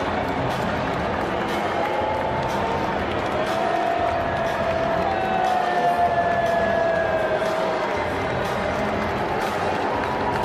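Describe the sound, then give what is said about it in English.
A large crowd boos Donald Trump, standing next to Pam Bondi, loudly and continuously, a dense sustained roar of drawn-out jeering voices that fills the whole stretch without a break. “In this clip, for example, Trump is standing next to Pam Bondi, and you hear him being booed.”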